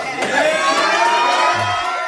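A roomful of people erupts in loud, sustained cheering as a man on the phone says "It's Dallas", a dense wash of shouts and whoops that holds steady for a couple of seconds without letting up.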